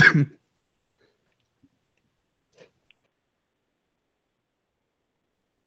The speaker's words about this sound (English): Excuse me, everyone, I had to cough.